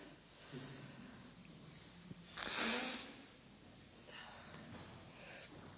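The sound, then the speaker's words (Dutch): Someone blows their nose into a special handkerchief with a small flower on it: one strong, rushing blast of air lasting about half a second, followed a moment later by a softer, longer blow. “Ik snuit mijn neus.”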